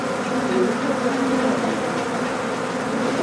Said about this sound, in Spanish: El próximo paso era abrir la pared, a la fuerza. Una vez que abrieron el hueco, miles de abejas llenaron el pequeño espacio del cuarto.